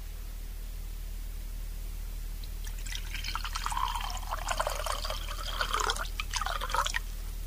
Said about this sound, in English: Would you like some wine too? Oh, I'd love some, yeah. Okay. Let me pour it for you. Oh, please, yeah.